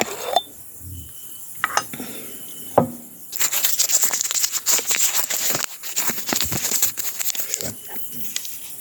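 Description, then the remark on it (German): Rustling and crinkling of paper slips as someone rummages for a slip inside a glass jar standing next to a telephone, starting with a few scattered clinks and taps, then several seconds of steady, busy rummaging before it settles again. “Das Glas da, wo das Telefon dran steht.”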